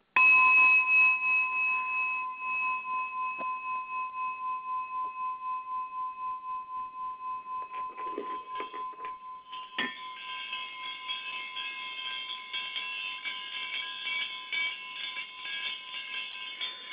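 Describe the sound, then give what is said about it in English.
Sustained ringing tones of singing bowls hum steadily, joined partway through by a bright cluster of tinkling bells that shimmer over the drone, played to activate the soul star chakra. Clear, moderately soft, with no talking. “Just some tinkling bell sounds and some bowls.”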